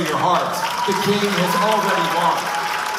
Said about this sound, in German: Sagt Posobiec zum Jubel der Teilnehmer, der lauter klingt, als er ist. Trotz großer Ankündigungen ist der Saal an der GW University nicht voll und am Ende des Abends sogar nur mehr halb leer.